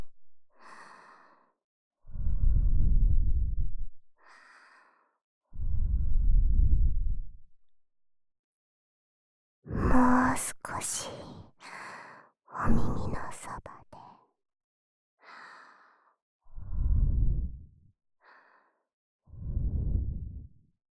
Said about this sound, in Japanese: 最後はこっちのお耳もふーしましょうね。柔らかく吐息を。